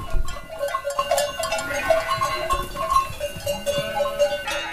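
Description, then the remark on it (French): A flock of sheep bleats in overlapping calls from several animals, mixed with the clinking of livestock bells in an open mountain pasture, steady and moderately loud throughout. “À la base, moi, berger, j'y connaissais rien en brebis.”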